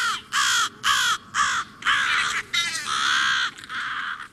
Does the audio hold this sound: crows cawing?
yes